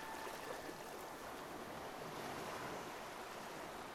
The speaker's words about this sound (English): In the background, you hear the gentle lapping of the water.